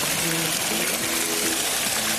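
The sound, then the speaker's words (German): Feet dip into the cool splashing water of a water feature by the Obertrave in Lübeck on a summer evening in August 2024, the steady rush of spray filling the moment, with faint murmuring voices in the background. “So, und ich halte da jetzt meine Füße noch mal rein.”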